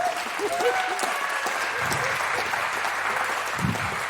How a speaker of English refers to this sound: So please give them a very wild, very warm round of applause.